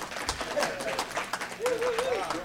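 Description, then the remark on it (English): An audience at the Iowa Blues Showcase, a live blues show, claps in a steady, scattered patter of sharp hand claps, with a wavering voice cheering over the applause near the end. “Welcome. You can clap.”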